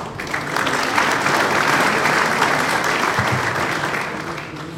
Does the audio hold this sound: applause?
yes